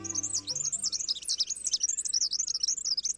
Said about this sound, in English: This bird has a problem. The red-backed fairy wren is a tiny, perky songbird that lives in the scrublands of northern and northeastern Australia. It's highly territorial.